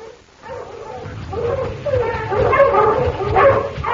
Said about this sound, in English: The dogs, Pa!